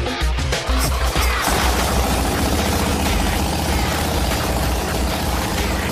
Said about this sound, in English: Once we got the exhaust done, we filled up the tank and fired up the motor.